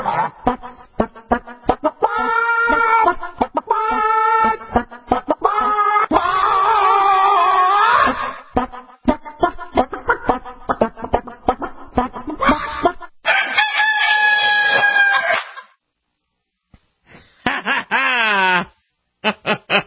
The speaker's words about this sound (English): And, of course, you heard our singing chickens. You might recognize the tune.